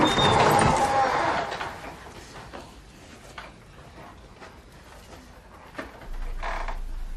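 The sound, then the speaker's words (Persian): A door opens with a loud, scraping screech and a thin squeal that fade after about a second, followed by a few faint clicks and a brief rumbling shuffle near the end. “در باز.”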